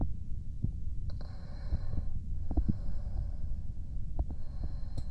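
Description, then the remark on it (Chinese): A mother's muffled heartbeat thumps low, heard with her son's ear pressed to her chest, over a steady deep rumble with no talking. “听听母亲的心跳。”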